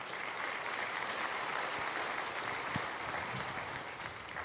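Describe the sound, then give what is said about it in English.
Sustained audience applause fills the whole stretch, a dense, steady patter of many hands clapping at an even level, with no voices heard over it. “The people who are abandoning their marriage didn't clap for that.”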